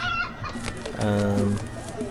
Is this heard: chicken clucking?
yes